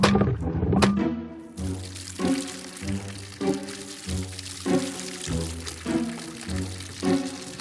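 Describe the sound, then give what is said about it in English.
Water pours steadily into a pail, its gurgling pitch rising in repeated surges as the container fills, after a brief clatter at the start. No voices. “Let me fill this pail with water.”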